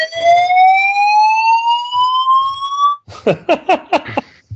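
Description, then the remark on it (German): A loud fire alarm holds a steady, slowly rising electronic tone for about three seconds, then switches to around five quick, harsh pulsing blasts. No one speaks. “Feueralarm.”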